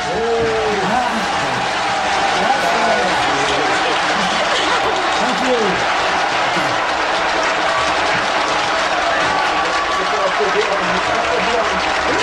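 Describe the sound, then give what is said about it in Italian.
Loud, sustained applause from a live audience, dense clapping filling the whole stretch, with scattered voices and faint cheering mixed into the crowd noise. “Aspettate, perché ci sono anche gli applausi in diretta.”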